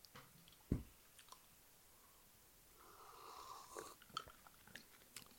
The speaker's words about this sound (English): did you steal a sip of the Clamato yet